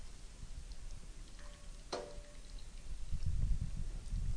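With the heat turned off, boiled spaghetti for tarako spaghetti is lifted in a colander and drained over the pot. Water pours and splashes steadily, with a single sharp clink partway through and the gushing growing fuller toward the end.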